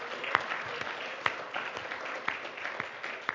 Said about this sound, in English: So come on, let's bless the Lord with a hand clap of praise.